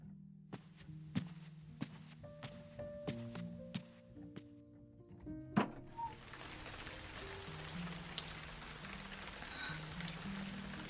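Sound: heavy rain falling outside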